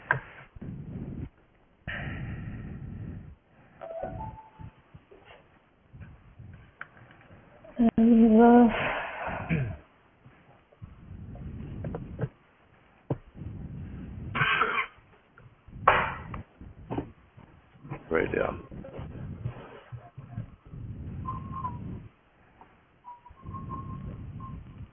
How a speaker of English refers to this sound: Who's heavy breathing at me?